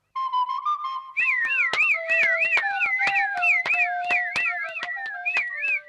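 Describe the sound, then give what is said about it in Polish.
A shepherd's pipe (fujarka) plays a steady reedy tone, then breaks into a quick, trilling, wavering melody over a sustained lower note, with sharp clicks beating an even rhythm throughout. “A cóż to, fujarka?”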